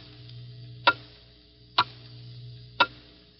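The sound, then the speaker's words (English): A clock ticks three times in the final seconds of 1950 before the New Year, each sharp, loud click about a second apart in a steady rhythm, over a faint low hum with no one speaking. “The clock is steadily counting them out.”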